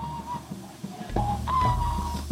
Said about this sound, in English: whistles nervously as time passes.